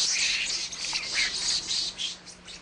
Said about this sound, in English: There are scores of glorious birds on Mr. Hefner's California estate, including parrots, toucans, and peacocks